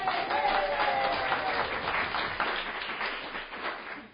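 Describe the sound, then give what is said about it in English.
A crowd applauds sponsors and a winner steadily, a dense wash of many hands clapping at once that holds at a fairly even level for several seconds before tapering off near the end. “Applause for our sponsors as well as our winner.”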